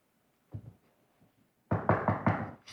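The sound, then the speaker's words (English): Banging on a wooden coffin lid: one soft thump, a pause, then a burst of about four loud, heavy, rapid knocks with a hollow, low-pitched thud to each. “Pretty soon somebody's going to come around and bang on the lid and tell me to get out.”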